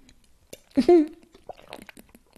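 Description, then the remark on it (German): Someone takes a quick sip of water: a brief, wet slurp and gulp that stands out loudly for a moment, followed by faint smacking mouth sounds. “Moment, ich trinke erstmal einen Schluck Wasser dazwischen.”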